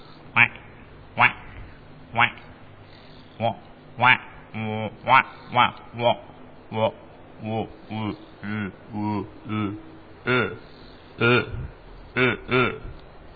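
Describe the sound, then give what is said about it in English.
Cape Barren geese call repeatedly, a rapid run of short, harsh honks and grunts, fairly loud, over a faint low background hum. “Cape Baron Geese.”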